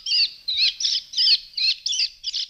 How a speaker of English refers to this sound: So at their vineyard on Whidbey Island, Washington, they broadcast the distress calls of birds, like this of a robin, to keep the would-be grape eaters at bay.